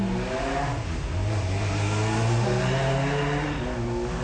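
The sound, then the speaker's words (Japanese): A motorcycle engine revs and rises in pitch as it passes by outside, heard through a window left open on a hot day, a steady loud drone lasting several seconds with no talking over it. “バイクが 走ってったね。”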